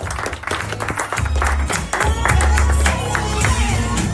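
An audience claps together in a dense, continuous burst of applause that stays loud and steady for several seconds, with a low, booming rumble underneath.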